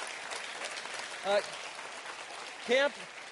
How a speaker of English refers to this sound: Can you give Sarah a round of applause? That is not easy to get up there.